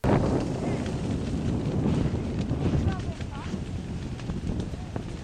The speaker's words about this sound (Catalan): Eren les flames i el fort vent que aquest cap de setmana han cremat més de 370 hectàrees de bosc a l'incendi forestal d'Artés, provocant el desallotjament de Sant Joan d'Oló, al Moianès.